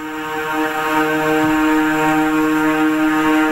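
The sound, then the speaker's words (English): A Christmas song plays through a phone speaker, thin and tinny, with sustained harmonic tones holding steady at a loud, even level. No one talks over it. “I mean, I'm playing it through my phone, but you'll get the idea.”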